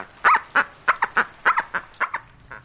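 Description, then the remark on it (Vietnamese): A toy dog yaps in a quick, uneven string of about ten short, bright barks, fairly loud, with no voices alongside; a mother is letting her child play with the toy dog in a hut in Soshaguve, South Africa, while rain and thunder continue. “Bà mẹ đang cho con chơi đùa một con chó đồ chơi.”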